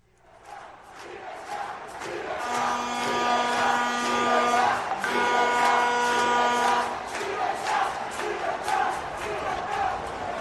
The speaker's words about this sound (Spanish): Vamos a escuchar las voces y el reclamo de libertad en el estadio. Se conoce el estadio de los Marlins.